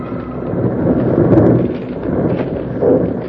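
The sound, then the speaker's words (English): A snow avalanche, started by two bank robbers firing bullets into the slope high up, roars down the slope as a loud, continuous low rumble, swelling around the middle and again near the end, with no voices. “Jingles were trapped by one of the most deadly perils of the snow country, a snow avalanche started by the two bank robbers high up on the slope.”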